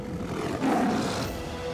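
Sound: big cat roaring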